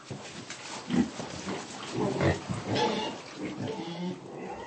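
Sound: pig grunting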